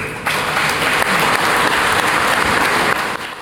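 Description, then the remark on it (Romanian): Delegates at the Communists' party congress applaud steadily, the dense clapping rising abruptly and holding at a loud, even level before easing off near the end, with no voices audible. “Șeful comuniștilor a lăudat de asemenea proiectul rusesc de Uniune Euroasiatică, o opțiune aplaudată și de delegații la Congres.”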